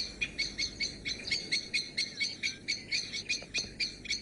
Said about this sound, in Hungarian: Túlságosan közel kerültem ahhoz a helyhez, ahol ennek a fekete rigónak a párja ül a fészkén. Jelzése most csak nem folyamatos, és sokkal alacsonyabb rezgés számú. Most ugyanis éppen azt akarja elérni, hogy őt vegyem észre, és ne a párját.